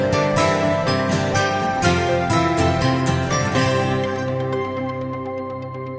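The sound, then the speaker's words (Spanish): A short instrumental music sting on COPE radio plays alone before a phone interview, with bright, rhythmic percussive hits over sustained harmonic tones that fade out over about six seconds. “una rafaguita y hablamos con él.”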